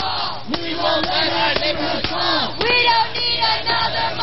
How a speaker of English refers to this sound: Once the destruction was complete, the crowd started to chant, "We won't let our neighborhood fall, we don't need another mall.